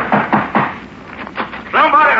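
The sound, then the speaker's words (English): Three firm knocks on a door in Allen's Alley in quick succession, followed by a few quieter taps, then a voice begins speaking at the end. “Well, let's knock.”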